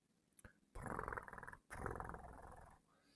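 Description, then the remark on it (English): A cat growls twice in loud, rough, rumbling bursts, each lasting about a second with a short gap between, and no one speaking. “Oh yes, nice kitty.”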